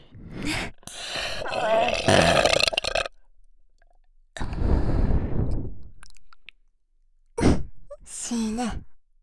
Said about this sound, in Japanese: ゲップエロすぎ。エロすぎ。耳元につけてゲップされるの聞く聞く。ほら。